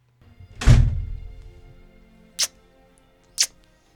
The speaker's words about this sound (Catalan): S'obre la porta i entra la senyoreta Picafort.